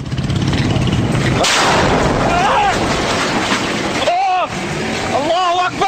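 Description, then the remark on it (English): Heavy gunfire and explosions roar in a dense, continuous barrage, loud, with a sharp surge after the first second and men shouting intermittently over the din, from fighting between Syrian forces and opposition in Duma, Syria. “Here was sound just from this week of gunfire explosions between Syrian forces and opposition in the Duma, Qusair falling to the Assad government.”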